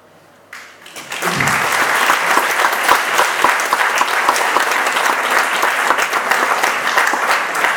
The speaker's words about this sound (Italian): Con questo applauso ringraziamo Padre Camillo per la sua presenza, per la sua preziosa relazione che ha fatto, che sicuramente appunto ci guiderà, ecco, nel futuro, nelle nostre riflessioni.